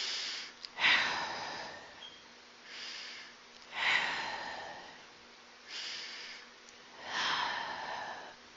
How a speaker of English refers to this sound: So step one, take 10 slow breaths. Those are deep breaths, right? This is part of meditation as well. So focus on breathing out as slowly as possible until the lungs are completely empty.